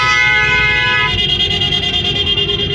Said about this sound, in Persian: خب دیگه نشون داد که وارد شهر شدیم. آره. این ادا و اصوله و صداها و ماشینه که داریم میشنوید قطعا تو شهر فقط اتفاق میفته.